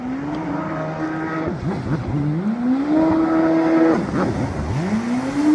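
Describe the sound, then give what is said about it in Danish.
A jet ski (water scooter) speeds past out on the water with a loud, buzzing engine whine whose pitch repeatedly climbs, holds, then dips sharply as the throttle changes, roaring steadily throughout with no voices. “Ja, mange har nok oplevet en jetski eller vandscooter komme blæsende forbi ude på vandet.”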